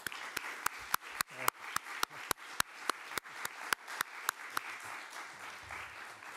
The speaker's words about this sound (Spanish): Y tenemos con nosotros para presentarla al productor Pedro Hernández Santos y al director Antonio Méndez Esparza. La película compite en sección oficial y os pido antes de empezar un fuerte aplauso para ellos.